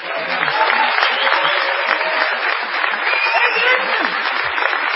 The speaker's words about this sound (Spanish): Vamos a saludar inmediatamente con una ovación del todo inmerecida a Patricio Barton.